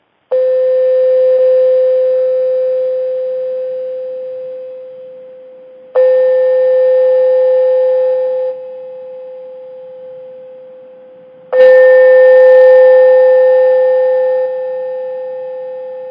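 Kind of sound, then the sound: signal or alarm, gong struck and resonating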